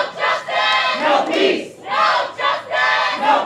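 A protest crowd outside the courthouse in Talbot County chants "No peace!" in unison, many voices shouting the short phrase in loud, rhythmic bursts that repeat roughly every second with brief pauses between.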